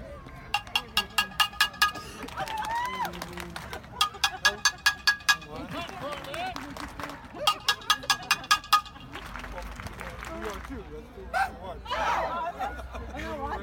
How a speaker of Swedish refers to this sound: Så stod ju då 66ers maskot som hette Bernie och höll hov. Ja, exakt. Vi kan väl lyssna lite på hur det lät när han dunkade i sin stekpanna.